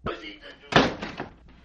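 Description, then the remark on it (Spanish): A door is pulled shut with one solid thud that rings briefly, while voices murmur faintly around it. “Ándele, así está bien, gracias. Cierren la puerta.”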